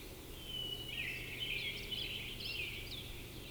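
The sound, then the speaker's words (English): Two birds give short, high chirping calls that overlap in quick, irregular bursts at 4:48. The calls are fairly soft over a low, steady background hum, and no song phrases can be heard. “There are definitely two in here calling, but no singing.”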